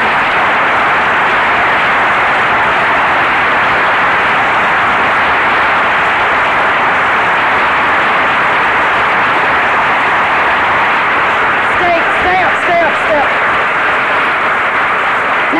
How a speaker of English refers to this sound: Okay, now hold your applause.